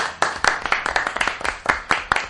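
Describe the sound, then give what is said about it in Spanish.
A short burst of applause from a small group for a birthday, with sharp, uneven hand claps overlapping in quick succession at a steady, moderate loudness and no talking. “¡Un aplauso!”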